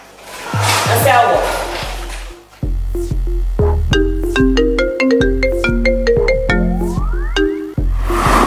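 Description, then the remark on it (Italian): A loud electronic phone ringtone melody of quick, bright beeping notes over a pulsing bass line, repeating in a bouncy dance-like rhythm for several seconds. “Ti suona il telefono?”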